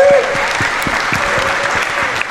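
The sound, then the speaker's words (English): An audience applauds steadily for the Savior, a dense wash of many hands clapping at an even, sustained loudness, with a brief tonal hum at the very start. “you give our Savior a big round of applause, please?”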